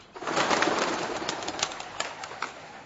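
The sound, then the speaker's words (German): A flock of pigeons bursts into flight, a dense, fluttering rush of many wings that starts abruptly, stays loud, then thins into scattered flaps, with no voices. “Also ganz schlimm ist, in einen Hintereingang von einem Haus reinzumarschieren und die schrecklichste Vorstellung, wenn dann plötzlich ein Schwarm Tauben vor dir auffliegt.”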